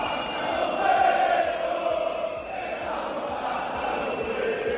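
A large stadium crowd of angry Valencia football supporters roars and chants at Mestalla after a 2–3 home loss to Las Palmas in the Primera División, a dense, continuous wall of voices, loud and steady throughout, with no single speaker standing out.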